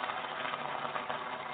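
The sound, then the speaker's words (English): A canned applause sound effect played from the sound board plays as a steady, dense buzz, more like a swarm of locusts than clapping, holding an even level throughout with no voices. “Cause look, this is the applause, and it sounds like a horde of locusts.”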